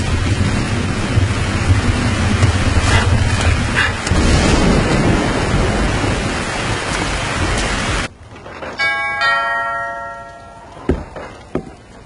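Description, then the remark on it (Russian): A steady, dense hiss of rain falling outside pours loud for about eight seconds, then cuts off abruptly, leaving a quieter background with a few brief tonal chimes and soft knocks. “На улице дождь.”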